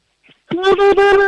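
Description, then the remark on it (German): A four-year-old girl from Leoben in Styria lets out a high, loud whooping war cry, one sustained voiced tone chopped into a rapid warble by three or four quick breaks, after a brief faint intake of breath. “Dann mach mal einen Indianerruf.”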